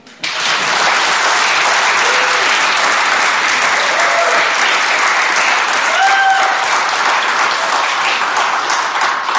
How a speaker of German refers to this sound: Ja, wir können klatschen.